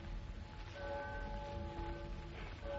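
A clock strikes twelve with resonant, bell-like chimes that ring and sustain over a low background rumble, with no voices present.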